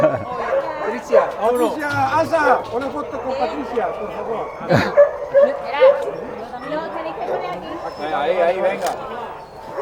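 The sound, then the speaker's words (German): Several dogs yip, whimper and let out short barks, including one sharp loud bark midway, while the dogs are called by name and checked with a chip reader, with indistinct human chatter in the background throughout. “Mit dem Chip-Lesegerät wird noch einmal überprüft, ob es der richtige Hund ist.”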